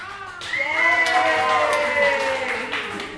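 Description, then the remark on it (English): A group of people at the end of a podcasting workshop screams and shouts loudly together on request, recorded on an iPhone: a dense burst of high, overlapping voices sustained for a few seconds with a hint of clapping. “I'm going to make sure that you know they're here because I'm going to ask them to scream and shout very, very loudly.”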